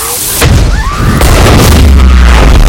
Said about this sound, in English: A fireball erupts, and Cole is thrown back onto the grass.